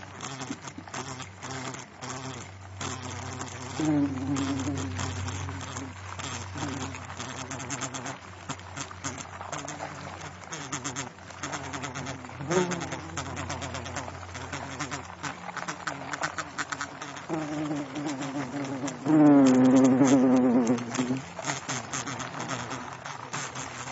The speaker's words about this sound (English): Apart from the general sounds of wasps walking over the delicate paper-like structure and buzzing backwards and forwards, there were some particular sounds recorded, like this one from within the nest.